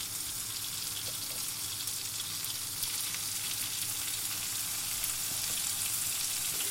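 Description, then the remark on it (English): A chicken breast, lightly dusted with flour, frying in melted butter and oil in a pan gives off a steady, bright sizzling hiss with fine crackles and pops throughout, loud and continuous, with no one speaking. “Now I'm going to put some more butter and oil into my pan.”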